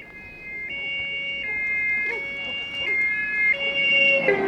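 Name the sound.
fire engine siren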